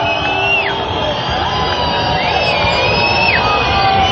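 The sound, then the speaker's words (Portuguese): A large crowd of protesters shouts and yells together in a steady, loud roar in response to a police warning given over a loudspeaker, with a few high, drawn-out cries sliding up and down above the din. “Isso que vocês estão ouvindo é a resposta dos manifestantes.”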